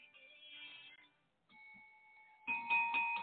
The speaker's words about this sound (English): You hear that bell? It's just for you.